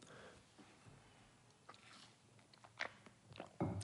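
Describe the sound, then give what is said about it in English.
Someone takes a quiet sip of water, with soft wet mouth clicks and a gulp or two, ending in a slightly louder swallow near the end. “And sorry, I had to take a sip of water.”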